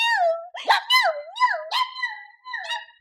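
A dog barks in a string of high, yelping bursts mixed with whiny, howl-like tones that rise and fall, fairly loud with no talking.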